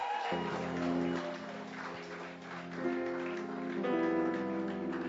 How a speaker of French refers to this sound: It's in order if that clap is for me. But if that clap is for Jesus, then you can do better.